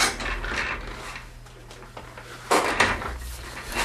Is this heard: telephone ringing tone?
no